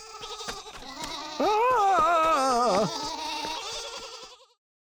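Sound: goat bleating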